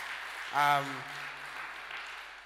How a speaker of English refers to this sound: Let's give God a mighty hand clap.